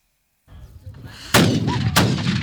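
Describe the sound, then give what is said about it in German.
Two sharp gunshot blasts, about half a second apart, crack out over a steady rumbling crowd noise, each leaving a brief roaring tail. They are fired during a reenactment of a Peasants' War battle at Bad Frankenhausen, Thuringia, staged by hundreds of performers for the war's 500th anniversary. “des thüringischen Bad Frankenhausen fand eine der bedeutendsten Schlachten statt, die an diesem Wochenende zum 500. Jubiläum des Bauernkriegs von Hunderten von Darstellern aufwendig nachgespielt wird.”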